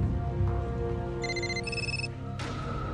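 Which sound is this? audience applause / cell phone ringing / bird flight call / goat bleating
cell phone ringing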